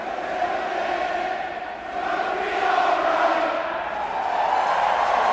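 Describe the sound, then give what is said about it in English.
A huge stadium crowd roars and cheers as Shane Victorino hits a double off the Monster to send three Red Sox runs home in a Red Sox versus Cardinals postseason game, a continuous, dense wall of voices, swelling louder midway and staying loud throughout, with shouts and whoops blended into the din. “The crowd went crazy as Shane Victorino hit a big double off the monster to send three Red Sox runs over home plate.”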